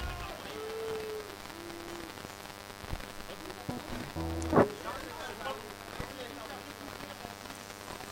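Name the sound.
rain falling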